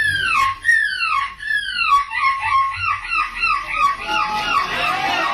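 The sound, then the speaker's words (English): A 9-year-old competitor in the youth division of the annual European Gull Screeching Championships in Belgium imitates a seagull's screech: a quick run of shrill, descending cries, loud, repeated about seven times before ending in a ragged, noisier squawk. “And that is actually not a seagull, but 9-year-old competitor”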